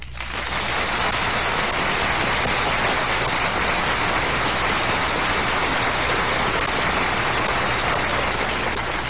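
A studio audience applauds steadily, a dense, even wash of many hands clapping that holds at a constant loud level for about nine seconds with no voices over it.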